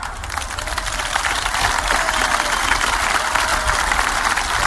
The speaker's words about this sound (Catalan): Els aplaudiments, per cert, molt més tímids.